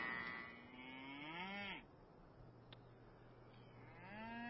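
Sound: cows mooing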